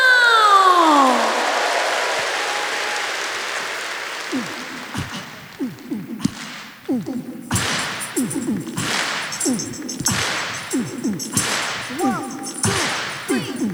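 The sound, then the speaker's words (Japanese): After an opening swoosh, an audience claps along to a bright song in a steady rhythm, about one sharp clap per second, over low sliding musical tones, building in loudness. “自分に拍手を送るような気持ちで一緒にクラップで参加してもらいたいなと思います。”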